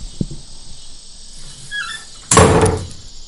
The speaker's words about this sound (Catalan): Quan van entrar tots al corral, la Peluda va tancar la porta amb un fort cop.